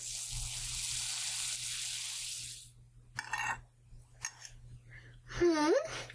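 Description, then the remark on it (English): Bacon sizzles in a pan with a steady, bright crackling hiss for a couple of seconds, then cuts off, followed by a few brief voice sounds over a low steady hum. “Looks like the bacon is ready.”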